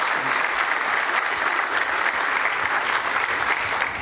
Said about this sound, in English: And Sheridan, y'all can clap for Sheridan.